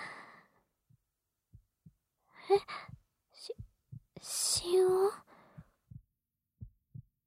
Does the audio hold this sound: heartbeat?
yes